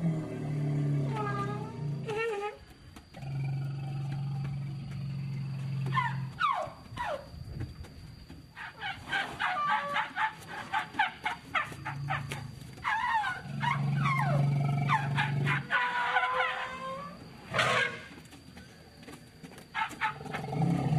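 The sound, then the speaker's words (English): Elephants of a Thai elephant orchestra trumpet in a few brassy, rising calls over sustained low droning tones, with bursts of clattering, ringing percussive strikes from instruments in the middle, all moderately loud. “Right, so this is the trumpeting of the elephants.”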